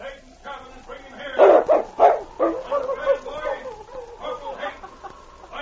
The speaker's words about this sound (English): A short time later, he arrived at Corporal Hayden's cabin. The great dog barked several times